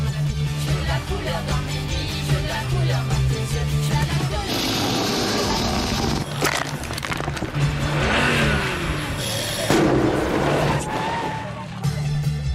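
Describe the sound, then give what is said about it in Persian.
A coupe car's engine hums and revs steadily with a low, continuous drone, rising in intensity midway, while other noise layers over it throughout. “لعنتی این ماشین کوپلی چش شده.”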